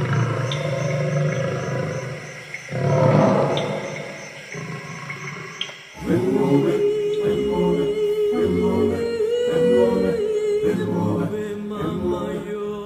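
animal, lion roaring

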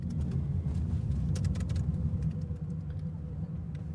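vehicle, car interior driving noise

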